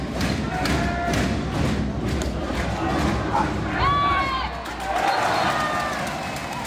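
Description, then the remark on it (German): A handball arena crowd of over 1,600 spectators roars loudly and continuously during a match in the Klingenhalle in Solingen, with steady thumping beats underneath and a few shrill, rising whistle-like tones cutting through the cheering. “Hören wir nochmal kurz rein in die Solinger Klingenhalle gestern Nachmittag.”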